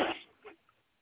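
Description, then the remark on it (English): A single sharp sneeze bursts out and quickly fades, followed by a softer, brief breathy sound. No one speaks. “Bless you.”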